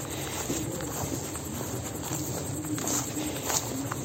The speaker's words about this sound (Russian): Сейчас я иду по мокрой траве.